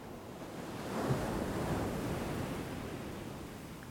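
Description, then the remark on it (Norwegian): Ocean waves wash steadily onto the beach, a broad continuous rush that swells gently early on and then recedes. No voices, just the surf. “Hør lyden av bølgen.”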